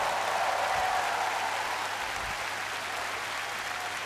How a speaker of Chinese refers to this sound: 世界最好的 harmonica player， 俾啲掌声佢。